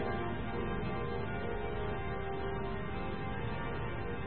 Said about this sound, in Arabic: يمكن عم بدقه مشان الله يرحمهم اللي ماتوا، بس نحن عم نصلي للأحياء، ما يزيدوا علينا، ما يزيدوا علينا، يسكتوا بقى. كل القداس عم بدقوا الجرس، ما بدهم ايانا نصلي او نحكي؟